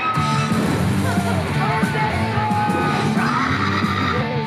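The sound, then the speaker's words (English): A crowd yells and screams "Funderstruck" together in a steady, dense roar of overlapping voices, loud throughout with a few sharp whoops and bangs cutting through, in a Carnival Cruise Lines promotion. “They're just screaming it.”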